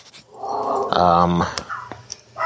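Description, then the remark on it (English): A neighbour's dog a couple of doors down lets out one drawn-out, tonal bark, fairly prominent. Softer scattered noises come before and after it, and no one is speaking. “So, the barking you hear, I have no direct control over. So, a couple of doors down.”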